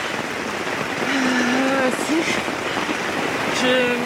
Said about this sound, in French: Je suis trempée, il pleut mais à torrent, il y a le niveau de l'eau qui monte, j'ai consolidé les piquets là dehors, je suis gelée.